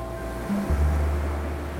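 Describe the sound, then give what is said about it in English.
A steady, low rumble of surf washing onto a beach, with a deep roar swelling slightly midway through, heard alone. “He dropped the belt he always carries, threw himself on the sand that was warm and fine, and listened to the sound of the surf.”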